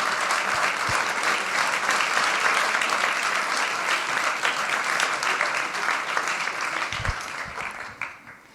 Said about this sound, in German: Zuallererst möchte ich allen Speakerinnen und Speakern danken, die ihr alle freiwillig und ehrenamtlich ihre Vorträge gehalten haben. Und ja, vielen herzlichen Dank. Ein Applaus für alle Speakerinnen.